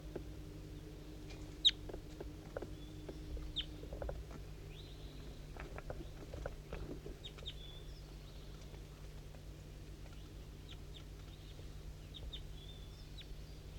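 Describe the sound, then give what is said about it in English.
Faint, scattered calls of a wild bird in fog at 8:15 a.m., down a hollow to the southwest: short clucks and chirps come irregularly, with a few thin high whistles, over a steady low background hum. No one speaks. “So recording, there's a wild bird coming around here. I can hear it kind of close up here, but I don't know exactly where it is.”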